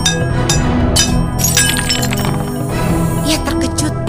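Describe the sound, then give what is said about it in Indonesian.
A plate that is being hit cracks and shatters, with sharp clinks and scattering ceramic fragments ringing out over a few seconds, and voices murmuring in the background. “tiba-tiba piring yang sedang dipukul Dio pecah”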